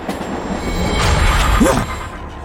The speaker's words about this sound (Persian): قطار داره میاد سمتتون. یه کاری بکنین، خواهش میکنم. نمیتونم جلوی قطار رو بگیرم.